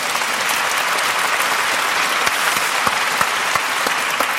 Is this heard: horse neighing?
no